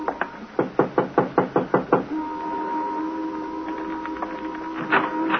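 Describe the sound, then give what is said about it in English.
A quick, even run of about ten sharp knocks by police officers on the door of a white single-frame house, number 763, in a rundown section of the city, followed by a steady low hum with a few faint taps, and no voices. “Want to knock?”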